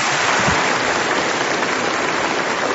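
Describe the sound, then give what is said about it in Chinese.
Dense, sustained applause from a large crowd at the close of a medal award ceremony, seeing off General Secretary Xi Jinping, other leaders and the medal recipients as they leave for a group photo; a steady wash of many hands clapping at an even, loud level with no voices standing out. “颁授仪式到此结束，让我们用热烈的掌声欢送习近平总书记等领导同志和勋章奖章获得者前往合影现场。”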